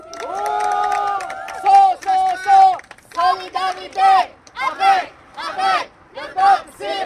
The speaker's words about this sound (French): Donc je vous demande tout d'abord d'applaudir le peuple syrien aujourd'hui qui ne lâche pas, qui ne lâchera pas jusqu'à temps que victoire soit faite.